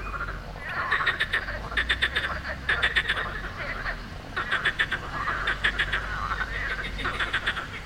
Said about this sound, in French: I was hoping we would hear that. Ce qu'on entend, ce sont les grenouilles de Sospel, the morning chorus of frogs chirping on the river Bévéra.